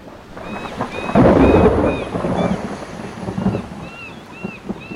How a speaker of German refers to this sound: Ein Sturm zog auf.